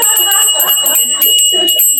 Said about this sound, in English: No, we don't have to use YouTube for our bell. You can ring.